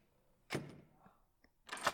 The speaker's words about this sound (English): Why am I closing the door? No reason.